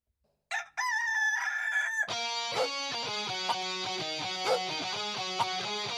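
A rooster lets out a single loud crow, and then steady rhythmic music with a pulsing beat begins and continues to the end.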